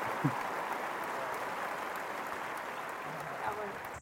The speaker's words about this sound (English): I think you deserve applause, actually. A good applause.